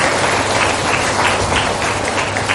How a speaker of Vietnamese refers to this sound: Và một lần nữa chúng con xin toàn thể tất cả quý Phật tử cho một tràng vỗ tay thật lớn thật dài để tuyên dương những lãng hoa tươi thắm này ạ.